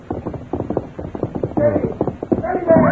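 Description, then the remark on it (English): A horse's hooves gallop hard in a quick, steady rhythm as a rider approaches riding hard over rough ground at night, loud. Partway through, tonal voice-like sounds rise over the continuing hoofbeats. “They became alert at the sound of approaching hoofbeats.”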